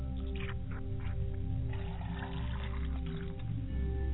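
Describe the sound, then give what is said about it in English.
Water is poured as a libation to the father's side of the family: a steady, soft stream for several seconds, a faint splashing trickle under a constant low electrical hum, with no one speaking. “I pour the water to my father's side of the family, and I say, Ashe.”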